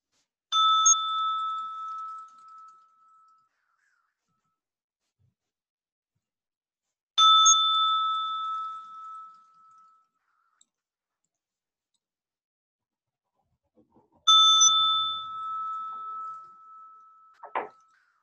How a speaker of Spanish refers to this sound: Ahora en unos momentos voy a sonar la campana 3 veces y los invito solo a recibir el sonido, las vibraciones.